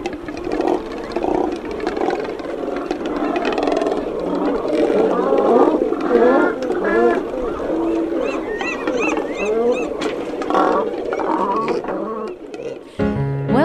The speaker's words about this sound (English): It was the elephant seals.